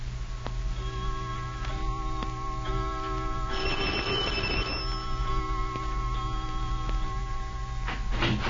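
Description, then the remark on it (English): A clock strikes nine o'clock, a series of slow, evenly spaced bell-like chimes whose ringing tones linger and overlap over a steady low hum, with no one speaking. “15 minutes later, as the clock strikes 9, Dr.”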